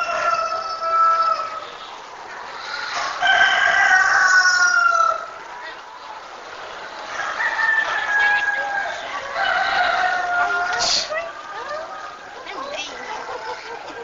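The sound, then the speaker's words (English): Roosters, including a huge one in a cage, crow again and again in a noisy, echoing barn, long drawn-out calls overlapping one another, with background crowd chatter and general livestock commotion. “And that rooster scared us to death. Every time we went out in the yard, he would get after us.”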